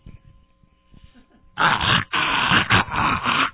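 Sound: dog growling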